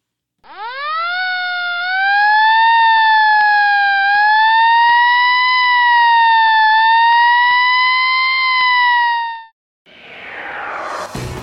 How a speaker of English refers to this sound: When you hear those sirens, do you say to yourself, "Wish I could do that"?